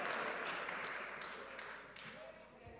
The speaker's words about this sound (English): Oh, Mount Zion, clap for yourselves. I'm so proud.